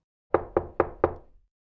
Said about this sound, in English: He knocked on the door.